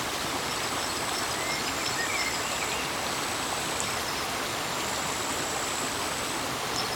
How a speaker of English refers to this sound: And as you exhale gently, draw your attention to the sound of the water and just let it grow on you.